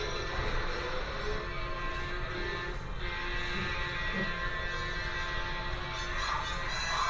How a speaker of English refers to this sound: In real life, that's a difficult feat, trying to outrun the train. That train is awfully close.